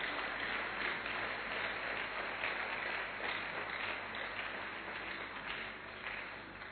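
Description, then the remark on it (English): An audience claps steadily and densely, a continuous wash of many hands applauding for Jesus at an even, sustained level for several seconds with no voices standing out. “Are you clapping for Jesus or you are not clapping for Jesus?”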